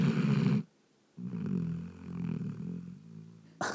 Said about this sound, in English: And I have a feeling she wakes herself up snoring so loud.